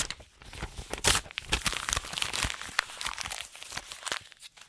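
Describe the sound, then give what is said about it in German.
Paper is torn and crumpled, a busy stretch of sharp crackling and ripping bursts lasting several seconds, with no one talking. “Zack, weg mit dem Zellstoff.”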